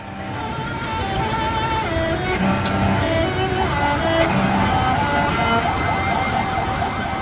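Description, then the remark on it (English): Steady street traffic rumbles while sirens wail in the background, their tones sliding up and down over a dense, continuous wash of road noise and commotion, recorded on a cell phone on a street in Baghdad by a bombed-out building with emergency workers. “Captured here in a cell phone video, which you can find on YouTube, you can see a bombed-out building, emergency workers, you can hear sirens and traffic in the background.”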